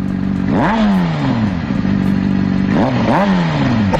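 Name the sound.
motorcycle engine revving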